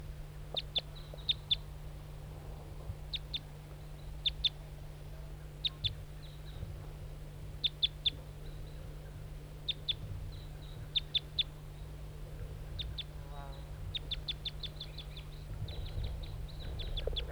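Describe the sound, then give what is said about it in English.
A lone wild male bird, all red, gives sharp, high-pitched calls in short irregular bursts, with a quick descending trill partway through, all over a steady low hum and no voices. “Start recording the wild bird. It's a lone male, all red.”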